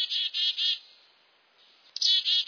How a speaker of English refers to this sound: Does this bird call sound familiar? It's the black-capped chickadee. Listen again.